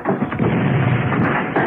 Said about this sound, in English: Mr. T knocked down the door.